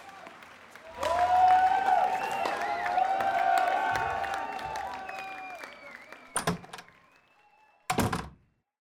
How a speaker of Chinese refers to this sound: 哇，果然是全国瞩目的比赛，非常多的观众，我的儿子果然厉害。